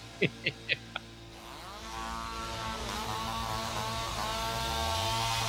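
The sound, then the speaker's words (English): A few quick sharp clicks, then a chainsaw engine roars to life and keeps running with a rising, revving whine, loud, with no one talking. “Leave the chainsaw home, though.”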